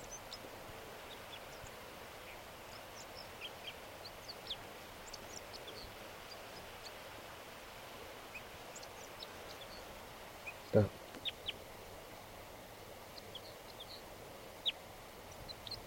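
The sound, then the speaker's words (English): A crossbill sings in a tree behind a net, in faint, high, short chirps and twitters, scattered irregularly over a steady background hiss, with one sharp knock partway through. “A crossbill just, I just noticed it. It's singing here in the tree.”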